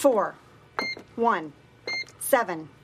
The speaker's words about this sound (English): Could you turn the volume down on the beeping?